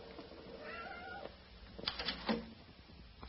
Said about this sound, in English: Here's a nice calico cat that greeted me the minute I came up from the cellar.